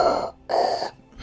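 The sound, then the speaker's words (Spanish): A voice imitates Darth Vader's heavy, mechanical respirator breathing: two loud, hollow, rasping breaths in a steady in-and-out rhythm, with a third starting at the end. “Y si le podemos hacer la respiración, mejor te digo.”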